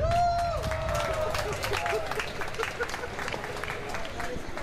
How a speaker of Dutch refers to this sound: En de volgende dame. Ja, geef een heel groot applaus.